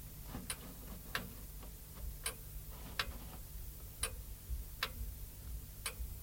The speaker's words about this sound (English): So we say in the amplitude is not correct. If you hang the clock correct, horizontal and vertical, then you have a real tick-tack. I will let it hear. Now you have here the uneven tick-tack.